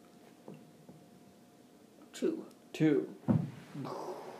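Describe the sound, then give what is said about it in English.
An eight-sided die tumbles across a tabletop in a few quick clattering knocks, fairly loud, with some voices murmuring around the rolls. “Why don't you roll that D8 yeah.”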